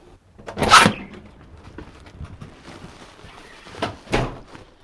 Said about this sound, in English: Opening up the paper now, there's a wrap over the front page section that says, "Welcome to your new Tribune." And the paper is a lot more colorful, a lot flashier.